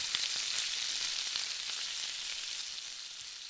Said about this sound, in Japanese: フライパンにオリーブオイル、ニンニク、鷹の爪を入れて火にかけます。ニンニクは焦がさないように注意しましょう。弱火でじっくりと熱していい香りが出てきたら、軽く塩、胡椒をした豚肉を入れて炒めてください。こんがり焼けたらさらにザーサイを加えておきましょう。